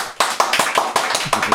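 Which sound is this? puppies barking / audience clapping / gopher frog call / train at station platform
audience clapping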